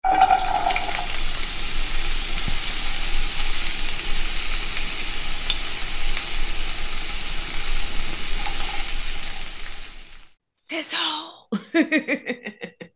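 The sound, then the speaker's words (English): Loud, steady sizzling like food frying in a hot pan, a dense crackling hiss lasting about ten seconds before cutting off abruptly, followed by a brief moment of a voice speaking. “Sizzle.”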